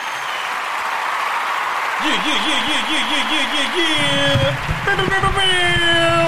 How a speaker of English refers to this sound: Cue the clapping hands. Cue the clapping hands. Something. Let's cue the clapping hands. Cue something up.